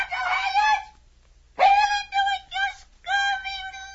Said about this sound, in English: Tell us what the bird says, Captain. He says to scratch his picture on the arms of all the people in the tribe.